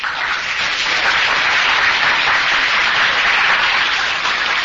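Steady, loud applause from an audience, a dense crackle of many hands clapping continuously without pause and with no voices on top.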